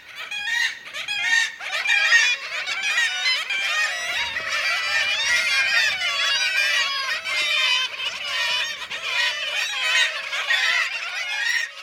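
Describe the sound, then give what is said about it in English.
A busy black-legged kittiwake colony in Norway fills the air with dense, overlapping nasal calls, many birds crying at once in a steady, loud chorus with no pauses and no voices. “The black-legged kittiwakes in this recording are in Norway.”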